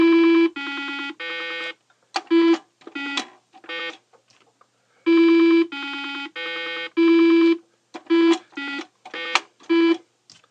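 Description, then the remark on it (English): Buzzy square-wave beeps from a Simon electronic memory game play alone: a few long, steady tones followed by quicker short blips, with the whole sequence repeating twice. “And it made these kind of square wave tones that were really distinctive.”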